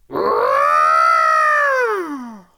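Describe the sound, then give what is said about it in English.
A person does a single long, loud elephant trumpet with their voice, a brassy blare that swells and then slides downward as it fades, with no other sounds. “Elephants, trunks in the air, and let's give him a big trumpety send-off.”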